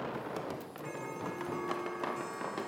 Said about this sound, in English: Did you hear that? Hear what? It sounded like a clock going off.